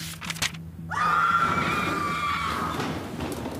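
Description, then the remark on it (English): A woman lets out one long, piercing scream in a school library that starts with a sharp rise, holds for about two seconds at full strength, then trails off, loud with no talking. “All three of their faces shot up from their books at the screaming woman.”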